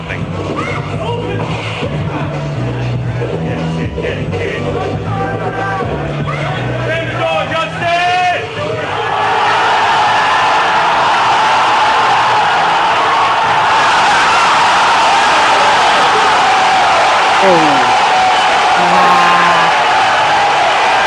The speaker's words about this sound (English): And the crowd goes wild.